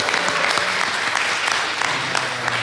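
An audience claps steadily throughout, a dense, even wash of many hands with no voices breaking through, holding at a fairly loud level for the whole stretch.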